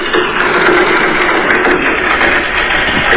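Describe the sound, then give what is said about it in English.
Hail hammering a house around 3:30 in the morning in a dense, continuous clatter of rapid overlapping ticks and pings, loud and steady throughout with no let-up and no voices. “Can you hear that? I can hear the hail.”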